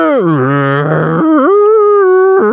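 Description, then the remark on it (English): A voice imitates a chair creaking as it moves: a loud, drawn-out groaning sound whose pitch dips low, then jumps higher and holds, with a short catch near the end. “You just hear a chair going.”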